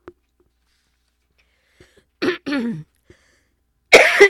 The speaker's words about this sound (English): Okay, I'm coughing, so you know what I do when I cough? I play music.